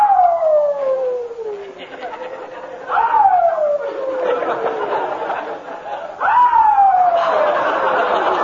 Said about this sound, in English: Oh, do you hear that dog? Dog? No, no, don't worry. He'll quiet down soon. Oh, you've been saying he quiet down for 5 hours yeah, now.